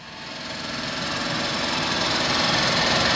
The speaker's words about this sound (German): In der Montagehalle am Max-Planck-Institut für Plasmaphysik in Greifswald, kurz IPP, hört es sich an wie auf einer normalen Baustelle. Es wird gebohrt, geschweißt und gehämmert.